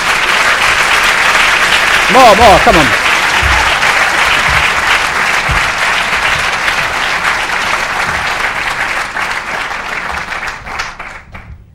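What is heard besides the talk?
audience applause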